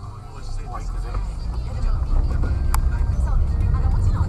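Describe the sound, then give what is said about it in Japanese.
A steady low rumble of road traffic, cars passing one after another without a break, growing louder partway through and holding at a constant level. “これ、車は途切れない地獄だな。”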